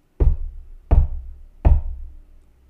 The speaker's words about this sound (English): Just as she was about to settle down herself, she heard the knocks again.